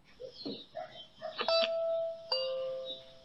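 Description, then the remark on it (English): A doorbell, rung by a door-to-door salesman, rings with two clear chime tones, the first note struck and ringing out, then a second lower note following about a second later, over a faint murmur of background noise. “He's ringing the doorbell”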